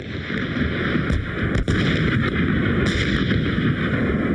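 Howitzer artillery fire pounding targets just across the border at the start of a ground war: a dense, continuous low rumble of heavy booms, with one sharper crack standing out midway and no voices.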